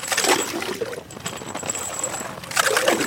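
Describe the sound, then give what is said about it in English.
Frigid water sloshes and gurgles up through holes that fishermen drilled with an ice auger in foot-thick ice on a frozen river in Kyiv, in two bursts, one at the start and another near the end, with a quieter watery churn in between. “Frigid water gurgles up through the holes.”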